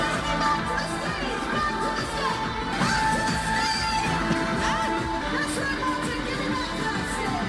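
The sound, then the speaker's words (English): A large concert crowd roars continuously as it crowd-surfs a giant water bottle with a woman inside, with overlapping shouts and cheers blending into a dense, steady wall of noise that never lets up across the whole stretch. “And they were crowd surfing this water bottle, and they started taking her way out into the crowd.”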